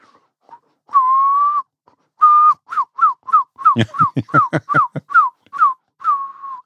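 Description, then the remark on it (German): A person whistles an imitation of a herring gull as heard from far away: two long drawn notes, then a rapid series of short, falling yelps with breathy bursts, ending on a long held note. Clear. “Silbermöwe kannst du pfeifen. Kannst du die mal machen? Also von weit weg kannst du die pfeifen.”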